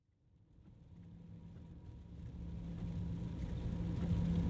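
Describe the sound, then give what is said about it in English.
Heavy rain from an afternoon storm drums steadily against a car windscreen over the low rumble of the vehicle driving along a highway to the airport, the roar swelling louder over a few seconds. No one speaks. “That's the rain hammering the windscreen as we drive along the highway.”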